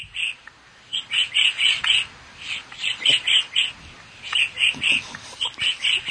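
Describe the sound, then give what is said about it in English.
A person mimics a woodpecker call with quick, high, chirping notes in short rhythmic bursts of three to five, separated by brief pauses, clear with no talking. “I have been working on my woodpecker call.”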